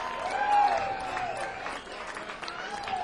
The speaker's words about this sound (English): I see a lot of people clapping with their hands in their lap. There's another word for them.